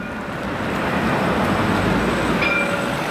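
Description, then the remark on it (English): A Jerusalem city light rail train passing through Shuafat rumbles past, a steady, dense roar of wheels and motors with a faint high squeal near the end, no voices. “The Cross Jerusalem city train that passes through Shuafat is disliked by many local Palestinians because it links Jewish communities in the east and west of the city.”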